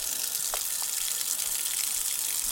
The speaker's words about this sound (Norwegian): Det var veldig trykk i denne kranen der.